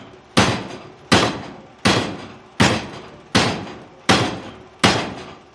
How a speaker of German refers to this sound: Also nicht nur du schlägst zu mit dem Hammer in der Hand, sondern diese, genau, für die ganz großen Geschichten, für die ganz, genau, schweren Geschichten hat man diese Schwanzhämmer, nennen die sich.